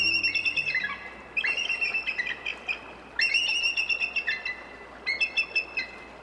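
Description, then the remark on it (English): Eagle calls from two adult eagles flying high above the ground and confronting each other: several bursts of high, thin, chittering notes in quick stuttering series, fairly loud and separated by short pauses, with no voices. “Two adult eagles flying high above the ground confront each other, talons outstretched, then suddenly lock onto each other's talons.”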